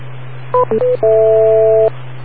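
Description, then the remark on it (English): A telephone line beep: three quick electronic tone blips, then one sustained two-note beep lasting almost a second, all over a steady low hum on the line. No one speaks. “Wait for the beep.”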